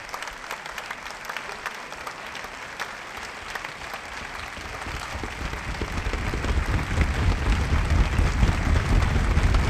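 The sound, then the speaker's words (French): Sustained applause as part of an audience claps when performers burst onto the stage, drawing the hall into a long salvo lasting several minutes; a dense wash of many hands clapping that swells steadily louder, with no voices standing out. “Dès l'irruption sur scène, une partie du public applaudit, entraînant la salle dans une longue salve de plusieurs minutes auxquelles la scène répond par des battements de pieds.”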